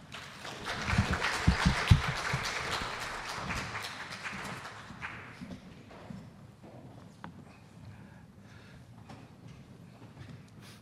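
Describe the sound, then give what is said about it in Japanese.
A small church audience at a Gideon service claps together to welcome a guest speaker, a dense patter of hands that is loudest in the first few seconds, then thins out and fades to quiet. “では歓迎の意味を込めて拍手でお迎えいたしましょう。”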